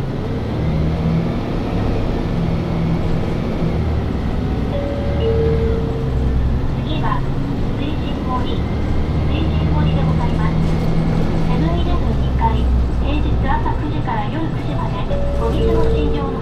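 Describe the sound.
A Toei city bus in Tokyo pulls away and drives on, its heavy engine droning low and steady from inside the cabin, with rising and shifting engine tones and faint voices underneath, as an announcement says it is departing and asks passengers to hold on.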